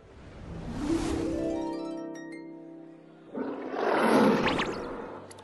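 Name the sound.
lion growling and roaring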